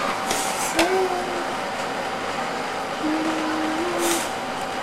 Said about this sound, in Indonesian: Kereta lewat ya.